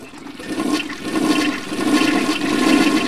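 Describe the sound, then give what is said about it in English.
A toilet flushes, a steady rushing gurgle of water that swells and churns for a few seconds without any voices. “Someone goes to the bathroom. And someone else does. And another. And another.”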